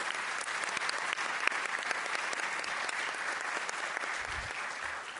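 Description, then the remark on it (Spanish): A crowd at an event claps steadily for the UTU students broadcasting it, a dense wash of many hands at an even loudness for the whole stretch, with no voices over it. “Este evento parece ser que está siendo transmitido por estudiantes de UTU, así que muchísimas gracias y un aplauso de todos nosotros para ellos.”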